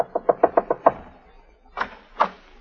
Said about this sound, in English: Now we find her knocking frantically on Jeff's door.